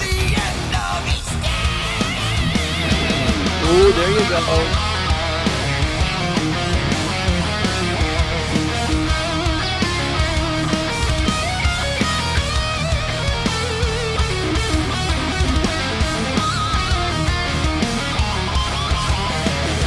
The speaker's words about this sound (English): I do miss those screeching guitar solos, though.